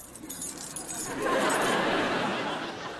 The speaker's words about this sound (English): the van keys.